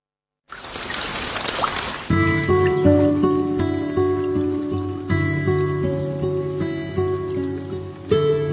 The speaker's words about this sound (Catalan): Què és això? Aquesta és l'aigua que va apagar el foc